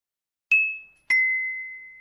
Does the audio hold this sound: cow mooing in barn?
no